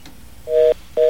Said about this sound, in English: And now I'm going to start dialing the number and wait for the static to come back.